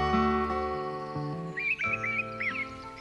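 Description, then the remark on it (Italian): Birds chirp softly in trees in short, quick bursts during the second half, set against a steady, gentle musical backdrop with no voices. “si arrampicavano sugli alberi dove gli uccelli cinguettavano dolcemente.”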